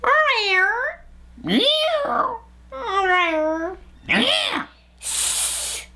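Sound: people imitating cat meows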